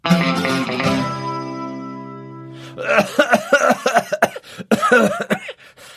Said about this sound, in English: that cough is still sounding bad. Have you tried the cough medicine I use?